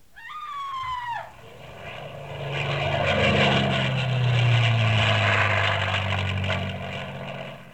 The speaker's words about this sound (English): Then from somewhere came hysterical screams and sounds like an airplane dive bombing.